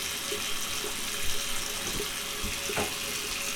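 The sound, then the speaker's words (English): Water gushes steadily from a tap into a bathtub as a bath is drawn, a continuous hiss and splash with a few faint knocks underneath and no voices. “The water's almost ready.”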